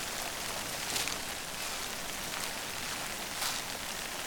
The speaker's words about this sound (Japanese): 今あなたが歩いているのは夢の世界。雨の降る森の中です。